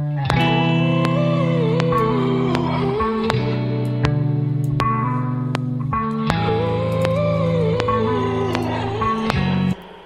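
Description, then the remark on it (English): A dense synth loop, heavily compressed with an OTT multiband compression effect, plays loud and upfront, with thick sustained chords, a wavering lead line, bright crisp transients and a repeating phrase that cycles twice before cutting off. “Let's just get this saucing with some OTT.”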